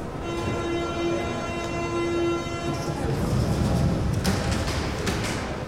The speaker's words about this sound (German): Alle Züge der Berliner U-Bahn machen mit akustischen und teils optischen Signalen auf die nächste Station bzw. die Türschließung aufmerksam.